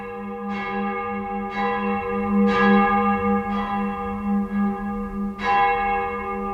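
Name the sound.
church bell ringing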